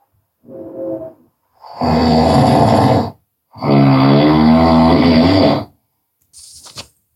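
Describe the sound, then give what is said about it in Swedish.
A voice imitates rhythmic snoring: a short snort followed by two long, loud, rasping snores and a brief breathy exhale, each separated by short pauses, with no other sounds. “Och sen satt jag på sängen och bläddrade och lärde mig många noveller utan till, medan mina föräldrar snarkade rytmiskt i sin eftermiddagslur vägg i vägg.”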